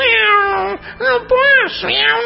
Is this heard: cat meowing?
yes